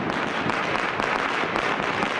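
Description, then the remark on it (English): Dense, continuous crackling of fireworks set off in China to mark the Chinese New Year, which began at midnight on Sunday, January 29th, going off in a rapid, overlapping barrage, with sharper bursts popping out every half second or so; loud and sustained, with no voices. “It's the shooting of fireworks to mark the Chinese New Year, which started there at midnight, Sunday, January 29th.”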